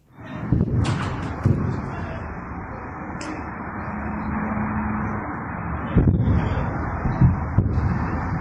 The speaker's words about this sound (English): Just half an hour later, explosions were heard in the skies above the streets of Doha. This was recorded on a mobile phone.